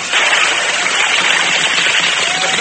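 A rider and his horse Silver jump into water, producing a loud, sustained rush of splashing and churning spray that holds steady throughout, with no voices.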